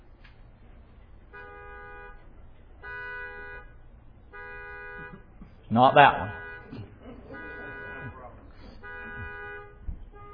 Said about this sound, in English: Oh, now everybody's honking.